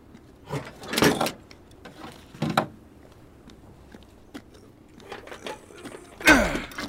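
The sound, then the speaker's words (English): A heavy shipping door is forced open in several loud, rattling metal bursts with scraping and clanking between them, with no one speaking. “There's a shipping door over here. Might be able to drive in after all. Does it open? It will.”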